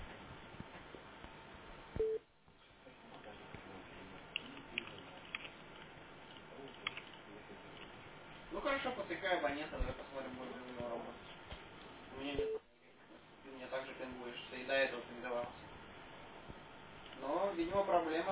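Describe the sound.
A telephone line plays a repeating busy signal with some dialing, its steady tones broken by brief gaps, while voices talk faintly in the background.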